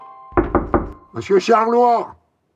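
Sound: knocking on a door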